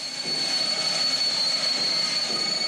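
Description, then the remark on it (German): A train's wheels squeal steadily on the rails as it rolls into the station at Gleiwitz, the last German station before Poland, a sustained high-pitched metallic shriek over a low rumbling hiss, loud with no voices. “Gleiwitz, hier Gleiwitz! Für Reisende aus dem Westen der letzte deutsche Bahnhof vor Polen.”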